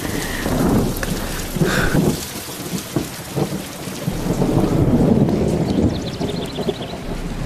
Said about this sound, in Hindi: बिजली कड़की थी, आ जाओ। आ भी जाओ। आ जाओ ना, बारिश रुक गई है, अब कुछ नहीं है।